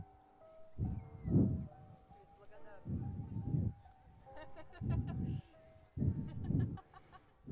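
A chicken clucks in four separate, fairly loud bursts spaced about a second apart, each a cluster of quick throaty notes, with a faint steady hum underneath.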